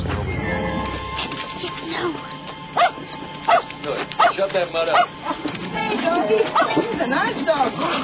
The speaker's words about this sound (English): Hey, doggy. He's a nice dog. Now, don't worry, I'm good with dogs. Shut him up, I said, unless you just want to go back to the joint.